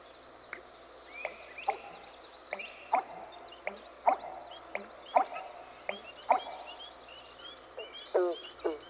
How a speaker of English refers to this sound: No, that's another bird, an American bittern, a stocky, brown, heron-like bird.